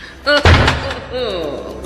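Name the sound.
door slamming shut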